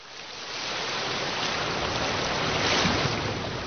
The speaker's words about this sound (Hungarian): Hallgasd a tengert!